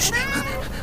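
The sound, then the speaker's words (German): A tame Siamese cat gives a single drawn-out, nasal meow, fairly loud, with a wavering pitch that bends over its length. No one speaks. “Das ist eine Siamkatze.”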